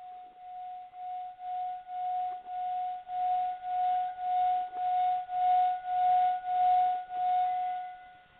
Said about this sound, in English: And I have a wooden striker and one that I can move around the rim of the singing bowl to produce a sound. This sound not only has the effect of clearing away negativity, but of consecrating.